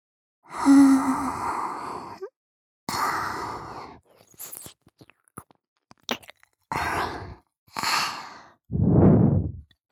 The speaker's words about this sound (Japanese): 夏樹の舌がぐっぽりと耳の中に入っていますよ